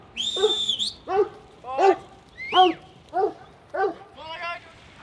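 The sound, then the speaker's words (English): A young female heading dog, about 18 to 20 months old, gives about six sharp, evenly spaced barks near a small mob of sheep in a farm paddock, preceded by a high, steady whistle at the start. No one speaks over them. “This is my heading dog.”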